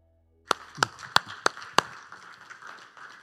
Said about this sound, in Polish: Wielkie brawa.